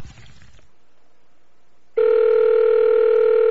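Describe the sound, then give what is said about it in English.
A brief clatter of handling as a phone call is redialed, then a hushed pause before a loud, steady electronic telephone tone starts abruptly and holds to the end, clear, with no voices. “Try her back.”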